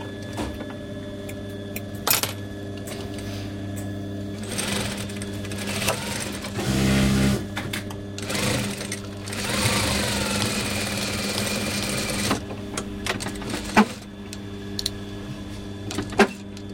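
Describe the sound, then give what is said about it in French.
A sewing machine runs in uneven stretches, its steady motor hum and rapid needle clatter speeding up and slowing down, with a few sharp clicks between runs. “Alors, bon, là, je vais utiliser la machine.”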